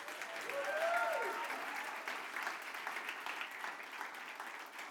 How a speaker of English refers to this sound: So would you join me in giving them a round of applause?